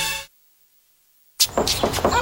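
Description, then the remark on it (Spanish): After a short tone and a beat of silence, someone raps on a door several times in a steady rhythm, the knocks fairly loud. “¡La puerta! ¡Sí, yo voy! ¿Quién es?”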